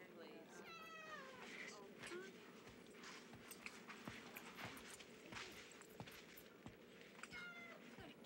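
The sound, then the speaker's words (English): A cat meows a few times, short rising-and-falling cries near the start and again at the end, over a busy, noisy background with scattered footsteps and sharp clicks. “Ditch the cat.”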